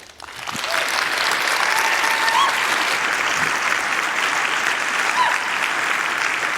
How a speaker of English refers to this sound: Please welcome her with a huge round of applause.